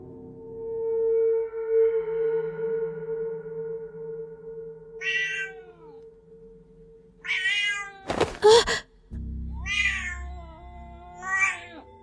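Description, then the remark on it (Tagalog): A cat growls low and steadily for several seconds as a bottle is reached for, then breaks into a series of loud, drawn-out yowls, with a short harsh burst partway through. No one speaks. “Nangabutin ko ang botelya, umungol ang pusa.”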